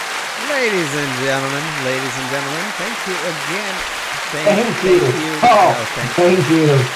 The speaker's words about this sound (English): Thank you. I feel so amazed right now that I'm getting so much applause right now.